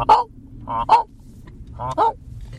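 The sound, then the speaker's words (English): Geese honk in a flock, several harsh nasal calls arriving in uneven pairs and bursts over a low rumbling background, loud and overlapping with no talking. “Sometimes you can hear them coming. All honking away.”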